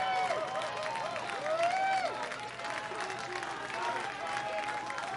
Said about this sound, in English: Crowd here at Maimonides Park beginning to rise, not only in voices, but standing as well.